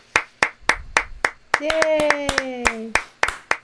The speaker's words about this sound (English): Yay. Except I've realised that when there's two of us applauding, it so sounds sinister. It's like, yeah. We need some kind of sound effect of...